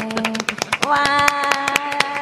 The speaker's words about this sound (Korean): 박수 소리 함께.